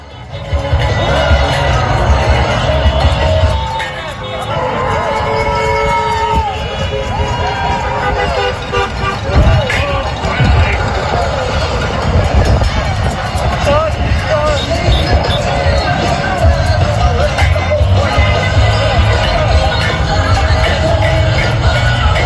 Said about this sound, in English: That's the sound of people celebrating Saturday afternoon in Tampa, the Joe Biden victory. Democrats, they're celebrating.